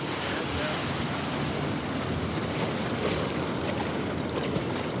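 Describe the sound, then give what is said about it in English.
A steady rush of ocean water and breaking surf as a surfer in a bio-rubber wetsuit paddles out, with wind buffeting the microphone throughout and no clear pauses in the wash of sound. “Well, let's paddle out and give this a shot.”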